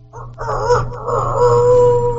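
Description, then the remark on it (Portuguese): A person on Rádio Bem 98 imitates a rooster crowing 2 kilometres away with one drawn-out, wavering wail that rises and holds for about two seconds. It comes out sounding more like a dog's howl, over a low steady hum. “manda um galo, 2 quilômetros daí de distância.”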